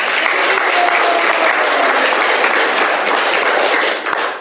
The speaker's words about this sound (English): Please give them a clap to encourage them. Давайте поаплодируем.